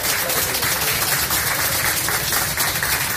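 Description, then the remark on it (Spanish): A crowd applauds steadily for an 86-year-old woman whose salt cod with raisins recipe was cooked by her grandson, a dense wash of many hands clapping at once with no break, loud and even throughout, with no voices standing out above it. “Bueno, estos aplausos, bueno, hay que decir que”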